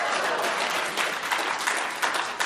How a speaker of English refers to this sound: I'm not sure why you're clapping, but 15 seconds of greatness in that moment.